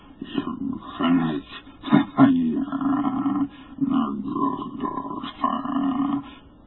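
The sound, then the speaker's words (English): A hideous, rasping croaking roar out of space, heard by a crowd at a mountain's base, rises and falls in a series of loud, guttural surges, its buzzing harmonic tone held almost without a break for several seconds. “Rang the hideous croaking out of space.”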